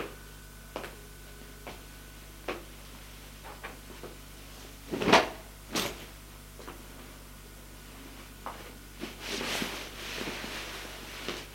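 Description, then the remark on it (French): Quiet indoor handling sounds with a few scattered clicks as a gun is put back into a drawer under clothes, then a sharp wooden knock and a second thud as the drawer is pushed shut, followed by soft rustling. “Elle remet l'arme dans le tiroir, sous ses vêtements, ferme le tiroir et retourne se coucher.”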